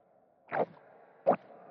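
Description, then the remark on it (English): Two wet, gulping swallows picked up by a contact microphone taped to a throat, made as sound design for the earth swallowing someone up. A loud plop-like gulp is followed by a second one under a second later, with a low, steady murmur between them. “I taped a microphone to my throat to get those swallowing sounds.”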